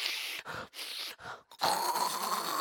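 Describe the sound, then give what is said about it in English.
A voice imitates snorting warm salt water up the nose: three short, harsh, breathy bursts separated by brief pauses, then a longer, loud, rasping snort with a gurgly hiss. No words are spoken. “First time I saw this, my husband, we were married a year, and he had sort of a sinus infection, and I hear him go in the kitchen, dump salt in a cup with warm water, and then I hear the most grotesque noise.”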